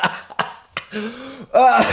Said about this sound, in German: Sorry, ich habe so einen scheiß Husten. Ich muss nicht immer, wenn ich zu fest lache, muss ich husten.